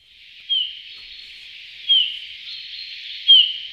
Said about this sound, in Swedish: Ja, det där är en domherre skulle jag säga. Men jag skulle inte kalla det för sång utan för ett lockläte. Och det var i alla fall lockläte då med långsamt modulerad vissling.